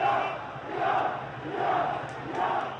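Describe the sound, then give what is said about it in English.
A large crowd of thousands of protesters marching in the streets of central Tehran, Iran, after the presidential election result was declared, roars and chants in rhythmic surges, voices swelling together in repeated waves, loud and dense. “Join us, the crowds roared as they marched.”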